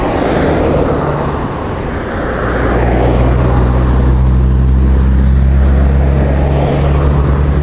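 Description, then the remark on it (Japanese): Loud, continuous roar of heavy traffic on a busy national highway in Japan, heard from the edge of a convenience store parking lot on a clear, windy autumn evening, with deep engine rumble from large vehicles droning underneath and a rushing, wind-like wash over the top. No one speaks. “非常に交通量が多い場所なんですよ。”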